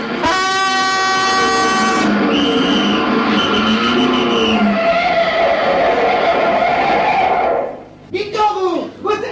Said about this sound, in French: Oh, rien, chef. C'est quelqu'un qui klaxonnait.